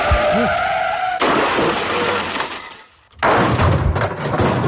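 A car's tires squeal in a rising, wavering whine, then a loud crash bursts out with a rush of clattering debris, a brief lull, and more crunching impact noise: a road accident involving two cars, leaving a car crumpled.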